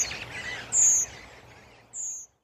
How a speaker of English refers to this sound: If cold weather persists or food supplies dwindle, they soon move on. Redwings are nomads, and birds which spend one winter in the UK might well be found in Eastern Europe the next.